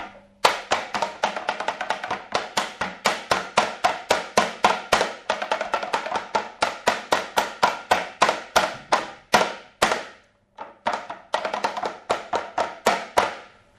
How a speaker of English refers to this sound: Right, so the mould was slapped around on the bench and now it's all being tipped back into the tempering machine, which I was not expecting, as it drizzles down into the tempera.